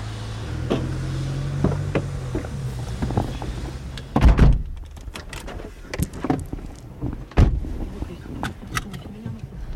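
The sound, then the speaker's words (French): People climb into a home-care aide's car amid rustling and shuffling, then two heavy car doors thunk shut a few seconds apart, with a low engine rumble early on and faint voices. “Alors là, on vient de monter dans votre voiture.”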